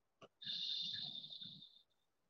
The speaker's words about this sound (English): Do it one more time. Breathing in really deeply, as deep as you can. Then exhaling out. Let it go.